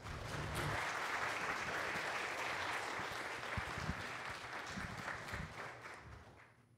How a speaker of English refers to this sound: How about one last round of applause?